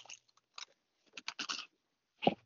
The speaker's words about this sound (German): Oh, hört man das Knuspern? Ich hab gar lange nicht gegessen. Warten. Durch Haselnusstafel. Achso, Haselnusstafel.